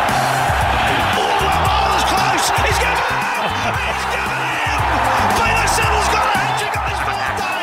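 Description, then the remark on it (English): A huge stadium crowd roars and cheers nonstop at Peter Siddle's cricket hat-trick, a loud, dense wall of noise that holds steady throughout, with a voice faintly talking underneath. “Crowd cheers.”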